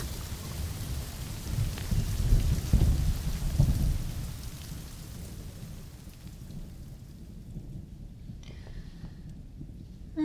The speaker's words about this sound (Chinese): 哎呦喂！真是的，又下这么大雨。估计一时半会儿停不了吧。